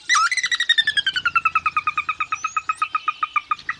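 A sora gives its whinnying call, a loud run of rapid, clear notes that starts high and steadily descends, the pulses continuing evenly for several seconds with no other sounds.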